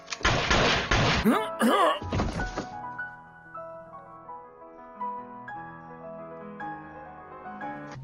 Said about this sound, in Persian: از اون بالا صدای شلیک اومد. آره انگار از اتاق چستر بود.